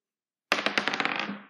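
dice being rolled

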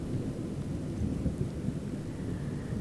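distant rumbling thunder

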